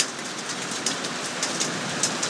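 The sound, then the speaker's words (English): Heavy rain hisses steadily during a summer thunderstorm in southeast Queensland, about three minutes after the rain began, with sharp, scattered clicks of hail striking a hard surface every half second or so. No voices are heard. “Only been raining about 3 minutes. You can hear the hail.”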